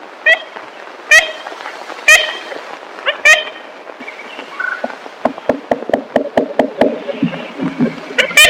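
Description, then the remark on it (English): Ivory-billed woodpecker calls in a 1935 recording made in the Singer Woods, Louisiana: a few nasal, tinny toots spaced about a second apart, followed by a quick run of sharp knocks and scattered rustling, with another call at the end. “The call of the newly rediscovered ivory-billed woodpecker.”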